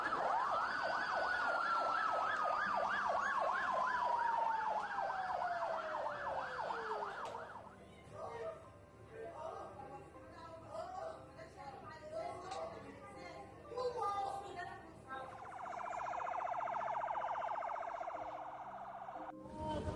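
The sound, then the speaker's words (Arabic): A Red Cross ambulance siren yelps in rapid, high-pitched pulses, then slides downward and cuts off. Muffled voices and road noise fill the gap before the siren's wail rises again near the end. “العالم بالشوارع وحتى الاسعاف يعني صاروا ينقلونا من اسعاف، كان سايق فينا الصليب الاحمر”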